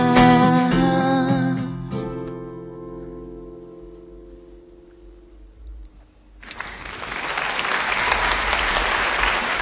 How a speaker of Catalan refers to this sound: És que us els mereixeu, aquests aplaudiments, perquè realment aquí hi ha qualitat, eh?